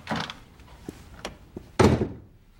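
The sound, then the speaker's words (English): A man shoves a door open with a scraping rattle as he storms out, followed by a few knocks and then a heavy slam that booms loudly before fading into quiet. “He shoves the door open and storms out.”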